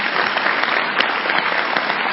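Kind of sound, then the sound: crowd, audience clapping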